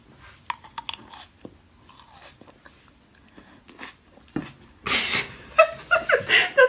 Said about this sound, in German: Und Mandarin zum Nikolaus heute. Und heute Snack der Woche. Mm. Ich schmatz mal rein. Achtung. Ich mach einfach. Ruhe bitte.